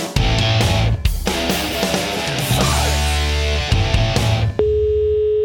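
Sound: phone call ringing tone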